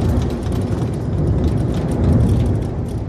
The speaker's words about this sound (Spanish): Son cristales temblando durante prácticamente todo el día y objetos que se caen de las estanterías.